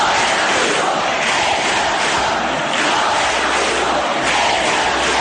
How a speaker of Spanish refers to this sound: en Pamplona, donde este jueves se leyó el dictamen contra los 5 jóvenes que abusaron sexualmente de una chica en los Sanfermines de 2016, este viernes se han vuelto a concentrar centenares de personas al grito de «No es abuso, es violación».